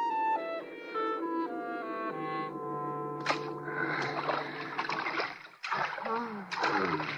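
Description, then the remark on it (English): Several sharp bursts of water splashing from swimming strokes break in at irregular moments over a steady, sustained tonal background, growing busier and more frequent toward the end. “Just a couple of more strokes will do it.”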